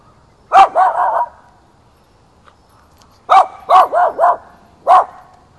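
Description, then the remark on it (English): A dog barks in two quick bursts, a rapid run of three or four barks, a pause, then another volley of four barks ending with a single bark. Fairly loud, with no talking. “That's a doggy.”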